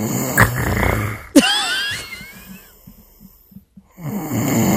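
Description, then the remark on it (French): Loud, rough snoring that sputters and chokes like an engine stalling, with a gurgling whistle mid-breath, then a string of faint irregular puffs and catches before a harsh rumbling snore resumes. The snore sounds like a motorbike starting and then stalling. “Alors, numéro 4, je l'ai appelé le moteur qui cale.”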